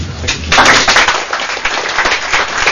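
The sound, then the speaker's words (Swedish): An audience at Kårhuspubben in Sundsvall breaks into applause for the mathematics lectures of Anders Fällström and Johan Torbjörnsson, holders of doctorates in philosophy: a dense, steady clatter of many hands clapping that swells after a brief moment and continues at a fairly even loudness throughout. “Filosofie doktorerna Anders Fällström och Johan Torbjörnsson får applåder för sina matteföreläsningar på Kårhuspubben i Sundsvall.”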